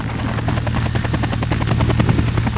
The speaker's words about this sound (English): To begin with, I'm going to have a Black Hawk helicopter fly over the top of you.